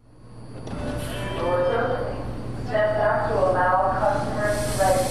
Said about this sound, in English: We jump on the metro for D.C. ahead of a busy day.